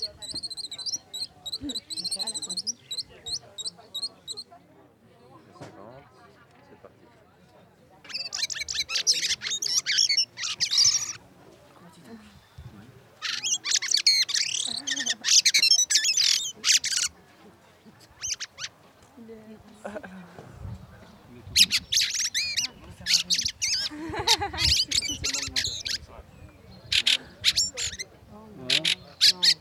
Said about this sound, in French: Grive Litorne.